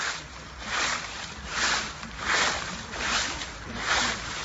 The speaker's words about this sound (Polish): Wyobraź sobie, że spacerujesz jesienią. Liście. Bardzo dobrze. To jest szelest liści, który słychać, kiedy ktoś rytmicznie spaceruje.